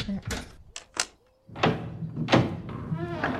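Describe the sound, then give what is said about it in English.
A few sharp mechanical clicks and a clunk as a door latch is worked and the door swings open, followed by a brief hush and then a person talking. “the door! Are you just going to stand there, or...”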